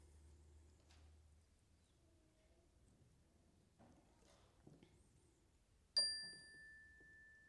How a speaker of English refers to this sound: I'll ring a chime, and I'll invite people to come to the outside of their sections and come forward to place their flowers in the vases, and then come back to your seat. Some time to think about your beauty. We'll start with the chime.